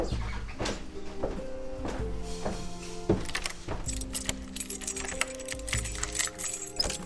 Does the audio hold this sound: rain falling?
no